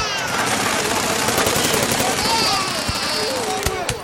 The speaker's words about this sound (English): Listen. Did you hear the sound of explosion?